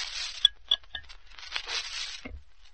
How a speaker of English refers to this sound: Get the glasses. Drop in the ice. Open the bottle.